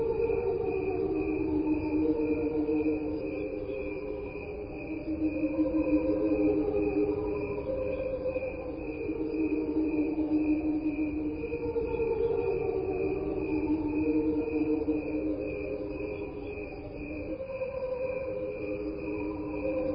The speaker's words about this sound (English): Okay, you know, this is crickets slowed down. There's nothing on here but crickets. There's real crickets, but there's also the angels underwater. There's no sounds on here that aren't crickets.